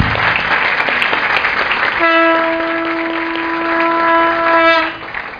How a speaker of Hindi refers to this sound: ताली बजाओ दादा भगवान के लिए।